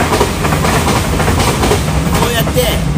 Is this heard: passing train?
yes